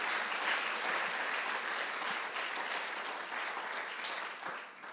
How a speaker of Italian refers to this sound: Fate un applauso a Gesù, per favore.